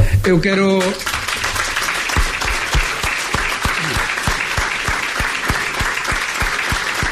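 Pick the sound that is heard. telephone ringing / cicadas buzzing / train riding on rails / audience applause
audience applause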